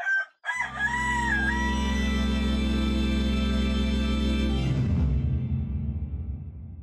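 A rooster crows loudly once near the start, its call rising and falling, then a dense, steady wash of sound with possible hen clucking continues before fading near the end. No one speaks.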